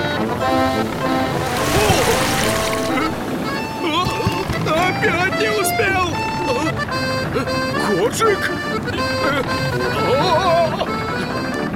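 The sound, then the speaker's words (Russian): Sea waves wash and surge around a small boat rocking on them, with a steady roar of strong wind, a louder rush of water early on, while voices and tonal sounds continue over the stormy background. “Но тут поднялся сильный ветер, и кораблик стал качать на волнах.”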